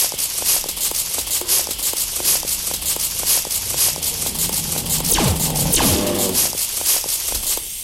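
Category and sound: sound effect, video game snake hissing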